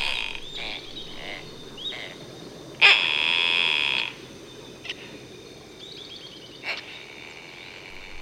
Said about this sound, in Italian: Non vi sembra che ci sia un'intenzione nel canto di questo uccello?